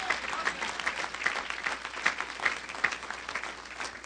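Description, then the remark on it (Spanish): An audience at a Spanish-language church sermon claps for the Lord together, a dense wash of many hands with a few sharper claps landing at a steady beat, moderately loud and continuous for several seconds with no talking. “Aplaude al Señor fuerte.”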